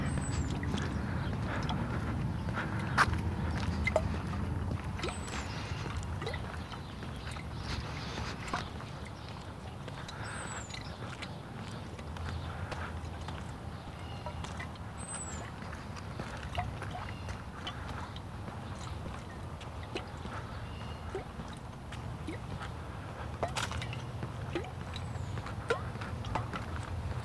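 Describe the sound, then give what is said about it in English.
Water sloshes around inside a bottle in a continuous, uneven churn, with low rumbling swishes and scattered soft knocks and clunks at an irregular rhythm, steady in loudness throughout. “My water bottle is being noisy this morning.”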